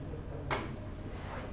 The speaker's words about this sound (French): puisque j'ai ouvri la porte qui va sur cette petite terrasse. Elle dit l'air frais du dehors entre. On a ouvri une porte,